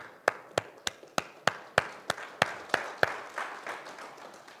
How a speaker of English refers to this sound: I know they've already given you a hand clap, but I'm going to give you another one.